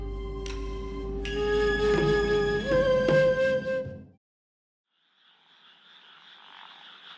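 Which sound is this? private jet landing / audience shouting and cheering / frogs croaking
frogs croaking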